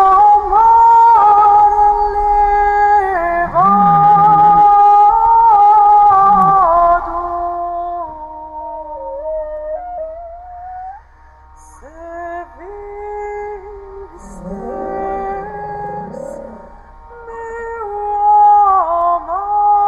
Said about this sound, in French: Et au même moment, la réponse d'une baleine à bosse captée dans l'hydrophone.